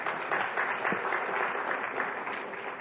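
Steady audience applause at an Orthodox Union program fills the space, a dense wash of many hands clapping at a consistent level throughout, with no voices standing out.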